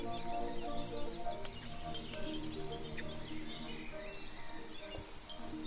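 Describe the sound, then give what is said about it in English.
A dense dawn chorus of many birds singing at once, overlapping chirps, trills and whistles, steady and continuous throughout with no voices. “What birds can you hear where you live? Maybe tomorrow morning, wake up early and hear the concert yourself.”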